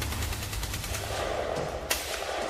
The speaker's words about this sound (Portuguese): nem imagina que aqueles barulhos possam ser tiros. Talvez sejam os filhos do carcereiro que vivem no primeiro andar da casa-prisão. Mas quando os sons se aproximam e começam a tornar-se mais fortes,